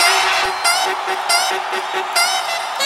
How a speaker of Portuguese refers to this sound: Não quero caô, não quero gracinha, agora eu quero ouvir o gritinho das louquinhas.